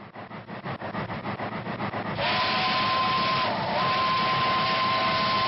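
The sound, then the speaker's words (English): A small steam engine on a miniature train ride at the old site of Riverview Park in Des Moines, Iowa, chuffs in a quick steady rhythm, then a loud, sustained whistle blows over a rush of hissing steam, briefly dipping before sounding again. “It's an original recording of the steam engine whistle on the miniature train ride here on the old site of Riverview Park in Des Moines.”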